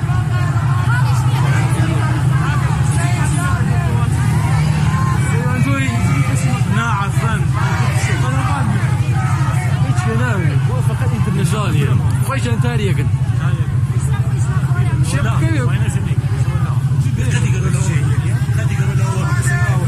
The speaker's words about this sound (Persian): صدا براتون بچه ها وصله، صدای تظاهرات ها وصله براتون، اگه وصله تو یوتیوب بنویسید.